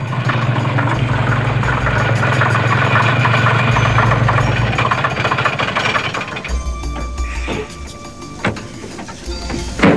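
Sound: truck engine idling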